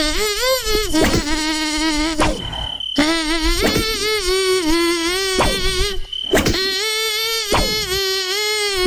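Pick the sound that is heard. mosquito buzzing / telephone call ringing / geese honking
mosquito buzzing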